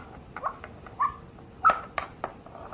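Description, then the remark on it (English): Someone imitates a dog with short, whiny yips, three brief high-pitched bursts spaced about half a second apart, fairly quiet, with faint rustling in between. “Doggy doesn't fit. He goes like this.”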